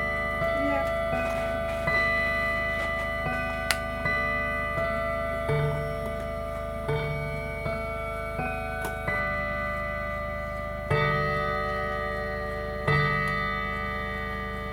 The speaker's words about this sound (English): Well, let's let the clock play.